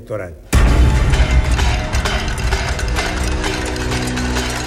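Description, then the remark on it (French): A crowd of protesters in Argentina bangs pots and pans after the president's speech, in a dense, continuous metallic clatter that bursts in loudly after a brief quiet start, with rapid overlapping strikes and a murmur of voices underneath. “Les entend-il, le président argentin, depuis sa Casa Rosada, les Caseros Larros, ses concerts de casseroles qui, dès la fin de son discours, commencent déjà à parcourir la ville.”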